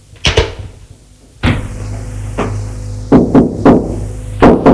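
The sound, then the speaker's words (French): Someone knocks on an office door at a company in several separate bursts: a quick double rap, a few single thuds, then a rapid run of three knocks, sharp with no voices. “Frappe à la porte.”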